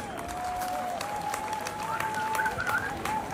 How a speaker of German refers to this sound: Erstmal, bevor ich es vergesse, danken wir natürlich allen Unterstützern, allen Sponsoren, die hier mitgewirkt haben, uns das ermöglicht haben. Einen fetten Applaus einmal für die alle.